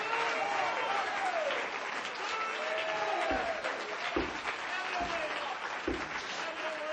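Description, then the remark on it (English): An audience claps their hands in praise of God in a steady, dense wash of applause, with scattered voices and shouts rising faintly underneath. “My God, somebody that loves him, clap your hands into him and bless his name.”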